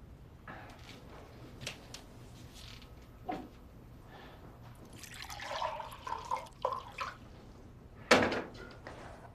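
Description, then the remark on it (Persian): A little water is poured for someone in a short, splashy burst with a few bright drips, followed by a sharp clunk. Moderately loud, with no talking. “یکم آب به من میدیم.”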